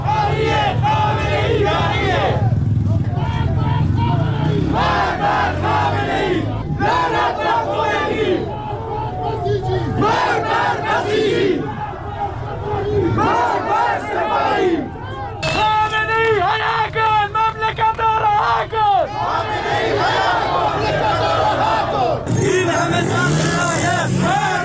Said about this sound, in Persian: معترضان پس از سخنرانی مولوی عبدالحمید بار دیگر در خیابانها شعار سر دادند.